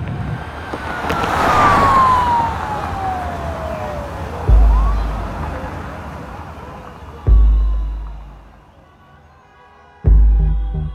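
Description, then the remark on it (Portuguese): An ambulance siren wails with a long falling sweep over engine rumble as the ambulance heads to the nearest hospital, while three heavy low thuds punctuate the sound at intervals of a few seconds. “A gente está nesse momento em uma ambulância indo para o hospital mais próximo.”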